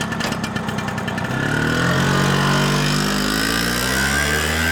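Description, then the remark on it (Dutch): A small scooter engine sputters, then revs up and pulls away as Colette and Linguini speed off on Colette's scooter, its whine climbing steadily in pitch. Loud throughout, with no voices. “Samen scheuren ze er vandoor op Colette's scooter.”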